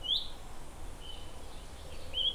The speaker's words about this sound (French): Je suis sur un terrain où c'est très calme, je suis en pleine nature, il n'y a pas un bruit, les petits oiseaux